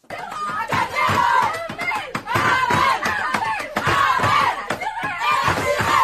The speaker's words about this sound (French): Ambiance dans le vestiaire hier, les Lyonnaises décrochent leur 13e titre d'affilée après avoir corrigé Dijon 4-0. Des championnes heureuses, et ça fait du bien de l'entendre, et qui n'ont peut-être pas fini.